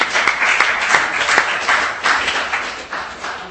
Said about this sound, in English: Superb. Thank you. Round of applause, I think.